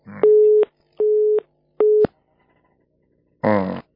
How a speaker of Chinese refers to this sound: 嗯，电话断了。有的电话公司不是太好，有的电话公司好，有的电话公司不是太好。